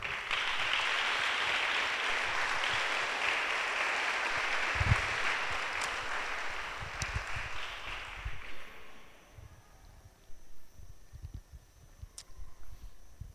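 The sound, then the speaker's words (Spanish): A church audience claps together as applause for God, in a steady, dense burst that holds for about eight seconds, then thins out and fades, leaving scattered faint noises and a few stray claps. “Le damos un aplauso a Dios.”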